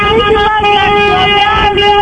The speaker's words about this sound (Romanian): Bravo, mă, în loc să săriți să o ajutați, voi claxonați.